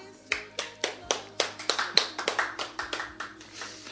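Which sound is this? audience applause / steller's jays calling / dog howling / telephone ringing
audience applause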